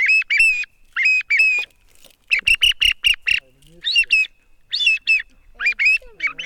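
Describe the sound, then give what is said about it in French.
A 3D-printed decoy whistle imitates a song thrush, blowing loud bursts of bright chirping notes in short clusters of two to five, separated by brief pauses, with a faint voice murmuring near the end. “Ça, c'est une impression 3D, du coup. Sempre per le grive musicien. Toujours pour la grive musicienne.”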